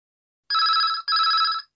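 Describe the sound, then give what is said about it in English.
A telephone rings twice in quick succession, two bright, buzzing trills of equal length separated by a brief gap, clear with no voices, as a man phones King's Restaurant to inquire about a job vacancy. “You will hear a man phoning to inquire about a job vacancy.”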